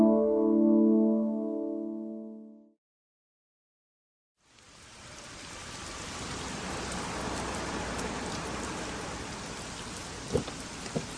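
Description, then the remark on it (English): A short musical jingle of sustained tones ends, then after a brief silence heavy rain pours in a steady, dense hiss, with a couple of sharper drips near the end. “It's pouring out there.”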